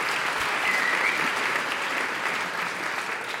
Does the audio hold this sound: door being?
no